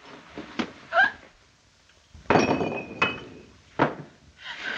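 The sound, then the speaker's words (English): A few sharp glass clinks and taps sound at uneven intervals, one leaving a brief bright ring, as another wine glass is set out and handled for wine. No one speaks. “We'd like to have some wine, sir. I'll get you another glass.”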